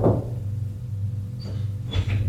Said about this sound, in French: Ils suivent le domestique qui le mène au salon du rez-de-chaussée. Domestique frappe à la porte.